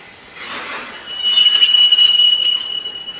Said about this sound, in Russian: Здесь на самом деле не самая благоприятная атмосфера вот из-за этих поездов постоянно, которые скрипят. Они, то есть такие вот такие скрипящие звуки просто разрушают эфир, тонкое тело разрушают.